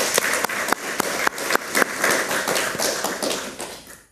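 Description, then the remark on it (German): An audience breaks into applause for the technical staff behind the scenes, a dense wash of many hands clapping with a few sharper, regular claps standing out, steady and fairly loud before thinning out at the end. “Insofern großen Applaus an die Menschen da hinten, die das alles möglich machen.”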